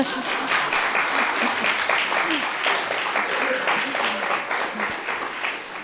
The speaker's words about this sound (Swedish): Och där brukar man få en applåd sen.